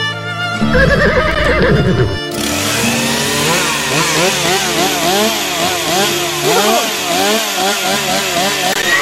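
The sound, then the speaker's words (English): A pony lets out a loud, quavering whinny lasting a couple of seconds, then a buzzing chainsaw starts up and drones steadily to the end, revving up and down. “Where is that the pony, and who has my saw?”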